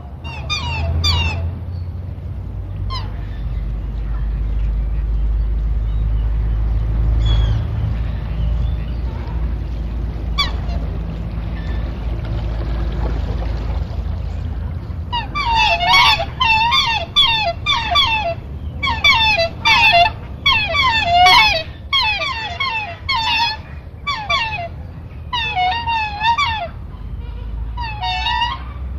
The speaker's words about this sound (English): you do begin to get terrific activity amongst our geese and our ducks on the lake, for example.